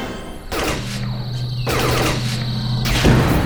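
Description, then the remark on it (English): Three loud cannon blasts, fired by pressing a flashing red button, go off about a second apart over a steady low mechanical hum, each a sharp, booming burst. No one speaks. “I'll take the cannon.”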